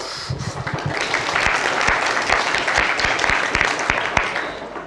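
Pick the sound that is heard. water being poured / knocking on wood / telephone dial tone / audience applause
audience applause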